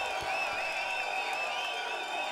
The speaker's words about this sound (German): Das Publikum applaudiert noch. Aber wenn man sich das jetzt so viele Jahre später anhört, klingt das so, als ob das gelobt gewesen wäre. Es ist wie ein Loop.